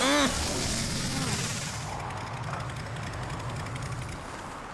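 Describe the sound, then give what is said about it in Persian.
A car engine sputters with rough, crackling pops over a low rumble, then gradually winds down and fades as it shuts off, fairly loud. “خوب، این یعنی داخل ماشین فعالش کردی، موتور خودمون خاموش شد.”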